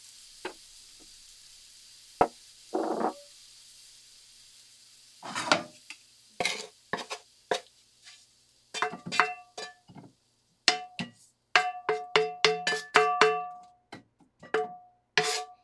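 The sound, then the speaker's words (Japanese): Food being moved onto a plate to cool: a series of scrapes and clinks of a utensil against cookware and dishware, with a few ringing taps near the end. No voices. “じゃあ皿に移して冷やす。”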